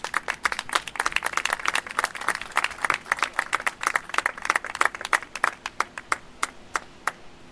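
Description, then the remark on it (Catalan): An audience at the Colors Sitges manifesto event in Sitges applauds with a dense burst of hand claps that gradually thins out, individual sharp claps becoming sparser and fading toward the end. “A continuació, Rat Esquerda, un fort aplaudiment.”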